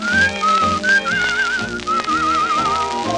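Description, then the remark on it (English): A bright, cheerful human whistle carries a wavering, tuneful melody with a gentle vibrato, sitting clearly on top of a full instrumental accompaniment. “If you couldn't beg or borrow, and thorny trails were all you knew, I'd greet every thorn and thistle with a cheerful little whistle.”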